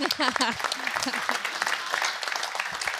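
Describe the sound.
An audience claps steadily for about three seconds, a dense, even wash of applause, with voices calling out and talking over it at the start.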